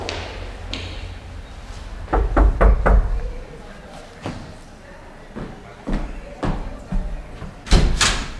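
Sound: knocking on a door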